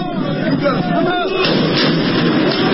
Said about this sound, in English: Belgian police are firing tear gas and water cannons at stone-throwing yellow-vested protesters near the country's government offices and parliament.